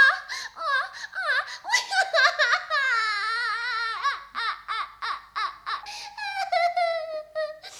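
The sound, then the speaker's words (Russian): A woman cries and whimpers, with choppy sobbing bursts breaking into long, wavering wails that rise and fall, fairly loud, with no words spoken. “Принцесса, почему вы плачете?”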